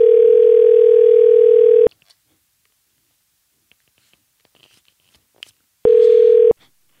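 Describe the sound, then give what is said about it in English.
A loud, steady telephone ringing tone hums for about two seconds, falls silent apart from faint clicks, then sounds again briefly, as a call to a friend rings through on the line. “So now it's time for a segment of the podcast called Phone a Friend, where we do just that. Phone a friend.”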